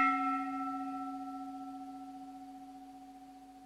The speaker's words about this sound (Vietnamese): cho nên thỉnh chuông không được thì nhanh, mà không được để ngắt quãng. Ví dụ tiếng chuông nó ngân mà không được để ngắt hết.